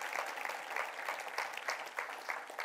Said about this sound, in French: Est-ce que je peux entendre une église qui dit Amen et qui applaudisse notre Dieu, qui est généreux envers nous?